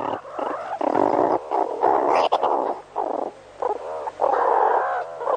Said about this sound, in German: Und so klingt eine Unterrichtsstunde bei den Erdmännchen.